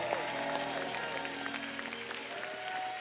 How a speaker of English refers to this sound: If you know you're blessed, let your hand clap, announce it to the devil.